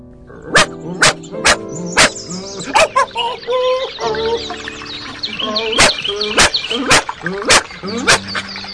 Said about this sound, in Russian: навстречу выбежала суетливая, черная, как уголек, собачонка и злым лаем набросилась на Антона